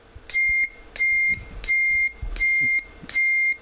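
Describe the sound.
A person imitates a truck's reversing beeper with their mouth: five steady, evenly spaced beeps, each about half a second long, loud, with no talking between them.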